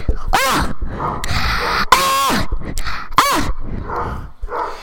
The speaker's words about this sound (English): Oh, and there comes Alex. I'd set him up watching some TV on the new projector. How do you like the new projector, Alex? Of course, he's just going to bark.